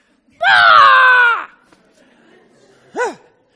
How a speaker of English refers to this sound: Anyway, I got to yell a little bit.